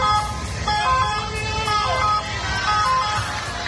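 ambulance siren

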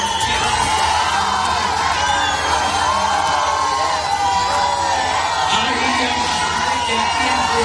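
concert crowd booing

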